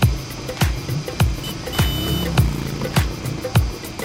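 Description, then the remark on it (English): An auto rickshaw, a three-wheeled vehicle open on top with no door, rattles along through traffic, with steady low engine rumble, regular bumping thuds about every half second, and a brief horn honk partway through. “Bumping around in an auto rickshaw.”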